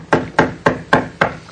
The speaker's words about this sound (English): See, I heard him knocking.